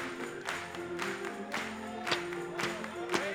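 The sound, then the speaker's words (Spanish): An audience claps for the Lord in a steady rhythm during a Spanish-language Christian hymn, roughly two claps per second, over sustained musical tones. The claps are crisp and moderately loud, blending with the music throughout. “Vamos a aplaudirle.”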